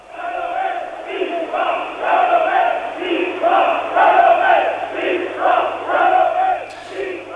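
A large crowd of workers marching in protest against plans to close mines in Lorraine, France, in 1984, chants loudly in unison, voices rising and falling in rhythmic waves that repeat every second or so, with a low steady hum beneath.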